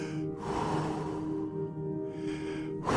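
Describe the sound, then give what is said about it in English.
Deep, loud breaths taken by a person about to go into cold water, with a long drawn-out breath through the middle and sharper rushes of air at the start and end. No talking. “Just breathing.”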